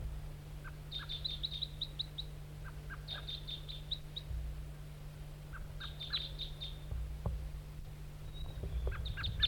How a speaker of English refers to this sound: Wild bird, back to the decoy.